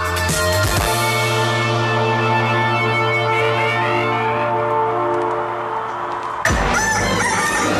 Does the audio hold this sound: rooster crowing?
yes